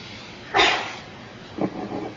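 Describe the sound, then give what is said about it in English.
During a Buddhist dharma talk, a sudden, loud sneeze bursts out and trails off, followed about a second later by a second, softer breathy burst. No one talks. “Bless you.”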